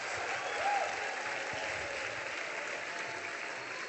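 Sustained audience applause, a dense, even wash of many hands clapping for about four seconds at steady loudness, with no one speaking over it.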